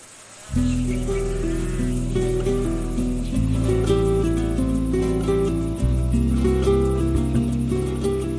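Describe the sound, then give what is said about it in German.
Crickets chirp in a fast, steady high-pitched pulse in midsummer, with the sun high, in the Provence region of southern France, sitting above loud sustained low tones that shift a few times, like droning chords. “Die Sonne steht hoch am Himmel und die Grillen zirpen.”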